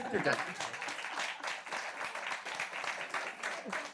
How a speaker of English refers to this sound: Yeah. I think that, that last part you read was really moving, and I think we should all give another round of applause for that. It was fantastic.